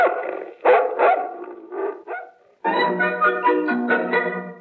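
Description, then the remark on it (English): A big dog, Bumpy, barks loudly as it is sent to chase a survey man, a quick run of deep, rough barks, then a brief pause before a longer burst of continuous barking and snarling. “I raise dogs. Big ones to chase nosy survey men. Go get him, Bumpy!”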